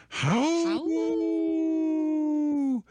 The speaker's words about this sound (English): It's funny, Lucy, the cat here in the studio, busted through the door and started, I don't know, it's not a howl, it's kind of a scary scream that she does now, but she was right on cue. Could you hear her?